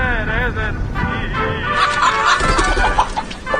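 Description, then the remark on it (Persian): A chicken clucks repeatedly in short, agitated bursts as someone chases it and tries to catch it, with scuffling movement and some voices in the background. “مرغه رو ول کن و بیا با پسر دایی داشت نشو.”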